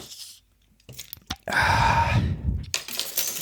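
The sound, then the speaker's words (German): A bottle of Gentle Ginger drink being opened: a few sharp clicks and clinks, then a loud, steady fizzing hiss lasting about a second, followed by more rustling, crackly noise. “Das heißt, sollen wir Ginger schon mal eine aufmachen? Ja? Gentle Ginger. Jetzt geht's los? Ja. Okay, ich mach mal eine.”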